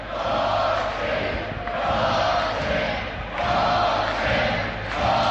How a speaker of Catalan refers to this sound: Escoltem l'ovació a la presidenta.